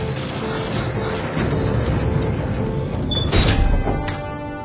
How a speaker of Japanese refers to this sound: 地下の秘密工場に行くぞ。 はい。 網膜認証クリア、ドアオープン。